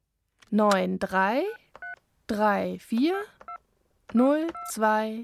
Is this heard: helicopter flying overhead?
no